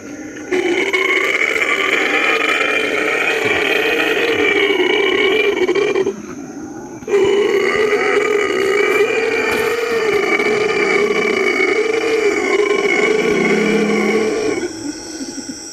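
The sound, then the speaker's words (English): Howler monkeys roar loudly and continuously in deep, droning, reverberant calls made loud by a hyoid bone in the neck developed into a big hollow chamber, with one brief pause near the middle before the chorus resumes at full strength. “There's a bone in the neck called a hyoid, and this howler monkey, it's developed that into a big hollow chamber that echoes and reverberates and makes for very loud monkeys.”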